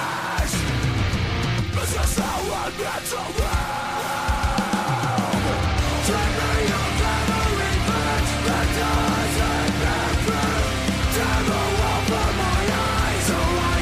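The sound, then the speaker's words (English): A loud, dense metal song by a band with two vocalists, with distorted guitars and pounding drums, carrying low, guttural screamed vocals that run continuously through the track. “Yeah, they have like two vocalists, it sounds like. And yeah, the one that screams really low”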